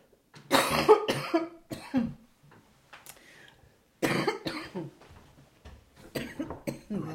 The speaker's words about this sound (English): I'm going to have to cough.